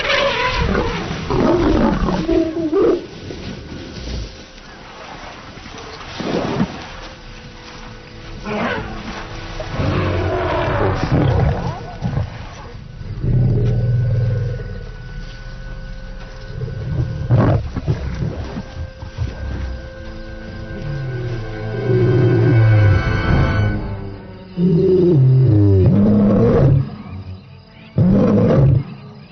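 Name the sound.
big cats roaring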